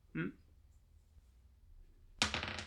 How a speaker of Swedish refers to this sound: Ska ha 4, 5, 6 eller 7. Mm. Vill du pressa? Ja, jag slår med tärning.